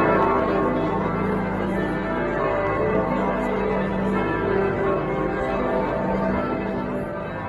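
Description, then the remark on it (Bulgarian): Church bells ring from the 690-year-old bell tower of Santa Maria del Fiore in Florence in a dense, continuous peal, their overlapping tones sustained and loud throughout, with no voices. “Впечатляваща е Мандела, но впечатляваща е и 690 годишната камбанария на прочутата Санта Мария дел Фьоре във Флоренция.”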